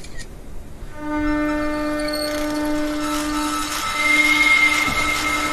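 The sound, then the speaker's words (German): An electric motor starts to turn, its electric current audible as a steady tonal hum and whine, harmonics stacking as it starts, then settling into a loud sustained drone with a slight rise near the end; no one speaks. “Spätestens wenn der Motor sich anfängt zu drehen, dann kann man den Strom auch hören.”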